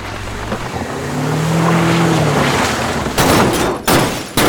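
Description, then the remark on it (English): A car engine roars with a rising, droning pitch, then loud crashing impacts burst out in quick succession as the car crashes through the front gate of a depot and races toward the people there. No voices. “a car crashed through the front gate and raced directly for us.”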